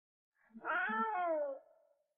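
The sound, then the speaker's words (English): A single drawn-out meow from a wild cat in its natural habitat, with a rising-then-falling wail, loud, lasting about a second before trailing off into silence. “She's a wild cat, and this is where she belongs.”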